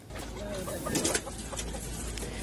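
A crowded flock of chickens, among about 1000 flown by charter flight from a farm in Iowa to a sanctuary in California, USA, clucks and chatters continuously, with overlapping calls and a brief louder flurry partway through, set against a steady background hum.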